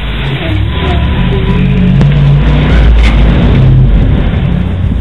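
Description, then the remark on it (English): A school bus engine rumbles loudly and steadily, its deep drone rising and falling slightly over about five seconds, with rattling and road noise layered on top. No one speaks. “Sitting in that exact seat, feeling like a part of the bus itself, gave the trip to school an exciting air of reckless adventure.”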